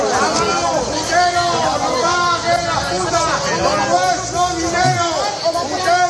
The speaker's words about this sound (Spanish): Abucheos, gritos de corruptos y también alguna crítica por su manera de relacionarse con las mujeres. Eso es lo que se encontraron ayer el que fuera ministro de Fomento y hombre fuerte del PSOE y su chico para todo